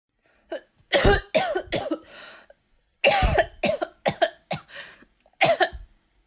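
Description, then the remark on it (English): A person coughs hard and wetly in two fits, each a string of four to six harsh, loud bursts separated by a brief pause, with no talking, coughing up blood while leaning against a porch railing. “We made it as far as the porch when she broke away from me to lean against the railing, coughing up more blood onto Terry's garden below.”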